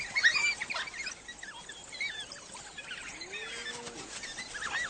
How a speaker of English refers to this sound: They also use unique vocalizations to coordinate their hunt. But they sound like no other dog on the planet.